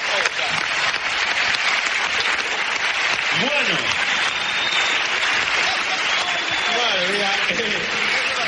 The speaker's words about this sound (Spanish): ¡Un aplauso para él!